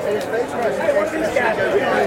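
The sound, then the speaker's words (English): A large outdoor crowd at a golf tournament applauds military men carrying flags toward the 18th green, steadily for a couple of seconds, a dense continuous wash of clapping mixed with murmuring voices and cheers, heard from within the gathering. “All right, can you hear the military being applauded?”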